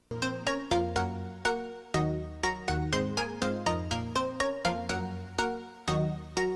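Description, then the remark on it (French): A bright, plucky synth melody plays quick repeated notes in a steady bouncing rhythm with no voices, the opening bars of a successful, humorous pop hip-hop song about love for one's phone. “C'est un morceau de pop hip-hop qui a eu beaucoup de succès.”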